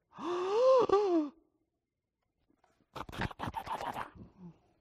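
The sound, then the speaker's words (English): A voice imitates a church audience's shocked gasp, a loud, drawn-out voiced intake lasting about a second. After a short silence comes a stretch of scratchy, breathy rustling. “I know some churches, if a woman walks in the back and she's wearing slacks, there's a holy gasp.”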